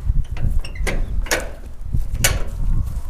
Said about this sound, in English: opens the doors to a large metal building that connects to an outdoor pen.